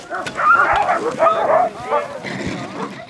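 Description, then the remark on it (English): A team of 13 sled dogs barks and yips excitedly in a continuous, overlapping chorus, loud, with high-pitched whines mixed among the barks, as the defending champion's team pulls out of an Iditarod checkpoint a couple of minutes before 8 p.m. on a Wednesday night. “defending champ Your Life Seth Olson pulled out a couple minutes before 8 p.m. Wednesday night with 13 dogs.”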